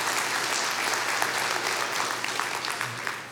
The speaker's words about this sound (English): I gotta be honest, I'm a little disappointed with that applause, okay? I was hoping I had a godlier crowd, but you know what? So the 9 o'clock crowd cheered louder than y'all